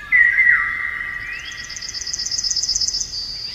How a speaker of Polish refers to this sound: Koncerty ptaków.